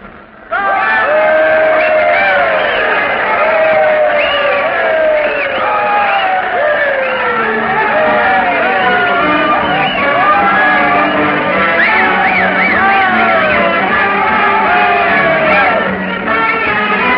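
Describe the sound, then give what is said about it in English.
A large crowd in Keeler cheers loudly and continuously as a train arrives at the end of its run to Death Valley, with many overlapping shouts and whoops rising and falling together for the whole stretch after a brief quiet start. “There'll be a crowd in Keeler waiting to welcome the train at the end of its run, probably the biggest crowd this little place has ever known.”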